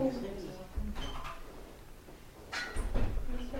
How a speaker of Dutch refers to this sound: wil je die deur dicht doen?